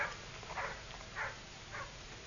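dog barking

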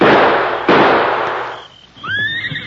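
rifle gunshot

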